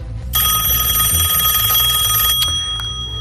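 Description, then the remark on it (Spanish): A telephone rings with a bright, rapidly trilling bell for about two seconds: a call to a pest control company from someone with a bedbug infestation at home. It then stops, leaving a low steady hum and a faint click afterward. “Todo empieza con una llamada de alguien que tiene en su casa unas plagas de chinches, sofás, colchones, sillas.”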